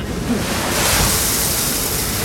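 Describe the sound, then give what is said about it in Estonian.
A little grain is poured into a mill in a steady rushing hiss that swells and brightens partway through, then keeps flowing evenly with no voices. “Nii, ma allan nüüd natuke siia vilja sisse.”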